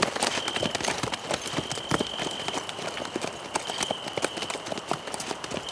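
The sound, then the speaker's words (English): Horse hooves clip-clop along a road in a steady rhythm as riders go back down the road, with many overlapping hoofbeats suggesting more than one horse, over a faint continuous high whine and light background noise. “They rode back down the road they'd come on for what Andy thought must have been 2 or 3 miles.”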